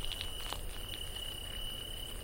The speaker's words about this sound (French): C'est la nuit et je suis sur la route qui conduit au phare. Je longe la Garonne, ce petit cours d'eau qui vient de la lagune. Les grillons ont remplacé les cigales.